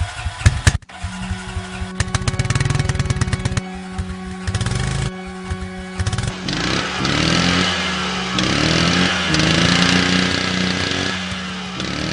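Loud chainsaws rev and buzz continuously while steady, sustained accordion-like tones hold beneath and above the engine roar, with no talking throughout.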